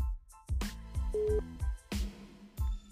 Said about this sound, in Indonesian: Dan dia sekarang sekolah di Jerman, sekolah perhotelan gitu. Oke, langsung saja ya gue telpon dulu nih, telpon jarak jauh.